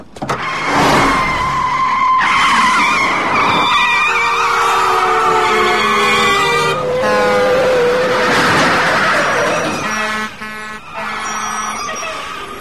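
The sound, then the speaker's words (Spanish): Loud tyre screeches from braking cars stopping suddenly for a dog on the road, several long squealing skids in a row, one after another, ending in sudden stops. There is no talking. “¡Para el coche! ¡Hay un perro en la carretera!”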